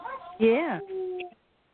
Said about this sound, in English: I hear some coyotes.